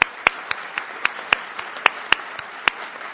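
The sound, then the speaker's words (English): A debate audience applauds the two candidates, Sean Duffy and Julie Lassa, steadily, a dense wash of clapping with sharper individual claps popping out every fraction of a second, moderately loud and without any voices. “And now that you have applauded, I'm going to ask you to do something difficult and refrain from applause”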